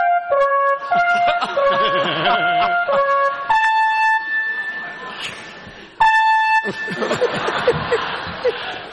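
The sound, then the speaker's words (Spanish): A loud electronic alarm connected to the fire brigade buzzes in repeated harsh tonal bursts, with laughter and chatter from several people mixed in around it. “Esto estaba conectado a los bomberos. Sí, es la alarma sobona.”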